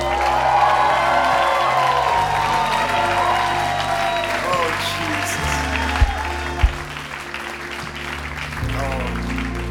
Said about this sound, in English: Let's just give Jesus a big just cheer.